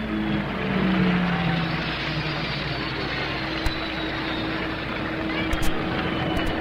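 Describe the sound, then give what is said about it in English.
A loud turbine race car engine, driven by Joe Leonard at around 170 miles per hour, roars steadily, its whining drone holding strong with a slight pitch drop early on as it passes, with a few sharp clicks near the end. “And Joe Leonard decides that he likes the turbines. He goes faster than he has ever gone before.”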